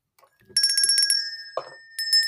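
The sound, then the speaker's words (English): A bicycle-style bell rings in a quick burst of rapid metallic dings, with a sustained bright tone, then a short pause and a few more crisp rings, loud, with no talking. “Also joining us, of course, is the pimping bell.”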